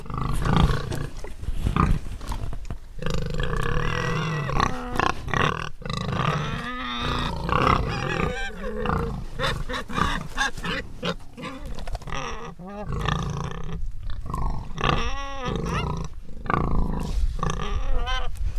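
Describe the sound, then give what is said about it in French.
A group of farm pigs grunts, snorts and squeals continuously while feeding on leftover plant produce unfit for human food, loud, with overlapping calls and no breaks of quiet throughout. “Là, les cochons, c'est pour ça qu'on a mis en place un élevage de cochons, viennent consommer toutes ces fractions de notre production de végétaux pour l'alimentation humaine qui finalement sont impropres.”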